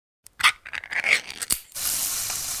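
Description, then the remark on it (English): Spam sizzling in a pan: a few sharp crackles and pops, then a steady, bright hiss of frying that holds at an even level to the end. No one speaks. “Oh, hear that? That's the Spam brand, singing you a love song. Spam, sizzle, pork, and”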